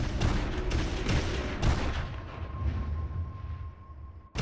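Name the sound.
gunfire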